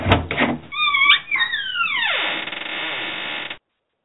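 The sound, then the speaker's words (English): A vault door sound effect: a few heavy clunks, then a loud creaking metallic groan that slides downward in pitch and settles into a low rumble before cutting off abruptly. “And what that is, that's the sound of a vault door opening.”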